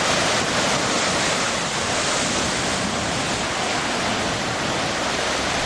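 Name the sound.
sea waves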